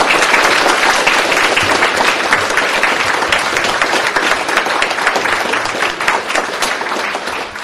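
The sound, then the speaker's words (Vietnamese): A large audience at a Buddhist gathering applauds steadily, dense overlapping claps forming a loud, continuous wash of sound that holds for several seconds before easing slightly at the end. “Xin được chúng ta cho một tràng pháo tay thật lớn.”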